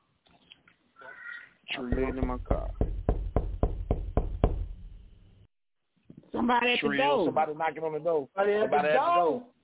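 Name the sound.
knocking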